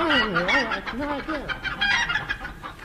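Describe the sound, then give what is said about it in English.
The cast of The Goon Show imitate brood chickens, a dense overlapping chorus of warbling, rising-and-falling clucks and squawks, fairly loud, with no actual speech. “Ladies and gentlemen, with the entire cast unfortunately turned into brood chickens, we are forced to close this series of The Goon Show.”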